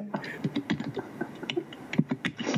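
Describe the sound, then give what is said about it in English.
Rapid, uneven clicking of fast typing on a keyboard, steady throughout, with a murmur of voices in the background. “Someone is typing madly.”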